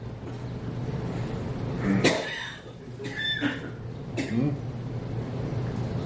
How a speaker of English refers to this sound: Oh, that was a cough. That's my response.